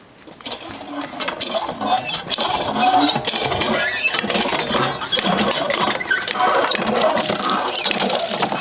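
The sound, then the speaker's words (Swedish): Water gushes steadily from a water pump, a continuous rushing splash with faint mechanical rattling underneath, running for several seconds without a break. “Det fanns vatten här. Det fanns vatten i rikepumpen, ja.”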